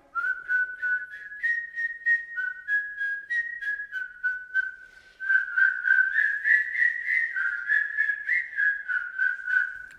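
A simple melody played on a small whistle, clear, with steady stepwise notes that grow slightly louder and busier halfway through; no voices.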